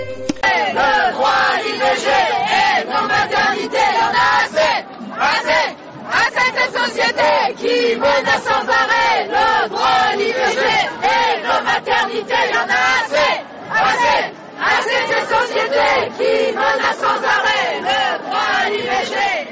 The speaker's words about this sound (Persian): این صدای فریادهای زنان فرانسویه که به زنان جهان یادآوری میکنن که نگه داشتن حقی که پیش از این به دست آوردن چندان هم آسون نیست. صدها تن از زنان فرانسوی روز شنبه به خیابان‌های پاریس و چند شهر بزرگ فرانسه اومدن تا از اونچه به گفته اونها حق بر بدنشونه